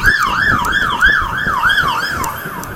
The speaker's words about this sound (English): Right, fire engine.